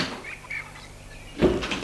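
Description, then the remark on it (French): A half-rusted iron double gate at the entrance of a large walled estate in open countryside creaks briefly on its hinges, followed by a short, dull clank as it swings open, set against faint background noise. “pour aller ouvrir le portail.”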